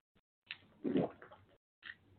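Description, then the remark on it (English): Wet sipping and slurping of water, a few short bursts of liquid being drawn in and swallowed, with a brief pause before a final sip. No one speaks. “Take a sip of this aqua.”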